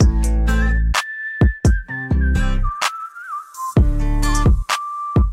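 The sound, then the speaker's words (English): A clear, sustained whistled melody glides over a punchy pop backing with strong deep 808 drum hits, bass and acoustic guitar, the whistle holding long, steady notes with slight bends. “I'm hearing whistling.”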